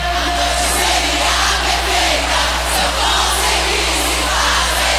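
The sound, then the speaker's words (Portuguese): A large crowd in Brasília roars and shouts continuously, raising hands and making noise when called on, a dense wall of cheering voices with rising yells and whoops swelling throughout, loud, over a steady low hum. “Levanta a mãozinha e dá um grito aí. Alô, Brasília, faz barulho”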